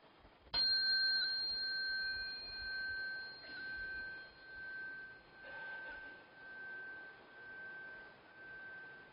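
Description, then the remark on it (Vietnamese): A Buddhist ritual bell is struck once as a cue for bowing during prostrations, clear, its bright tone ringing on for several seconds with a slow pulsing shimmer as it fades, with no voices. “Thì vừa đứng dậy rồi á, chúng ta xá theo cái tiếng chuông, chúng ta nghe tiếng khánh thì chúng ta lại xuống.”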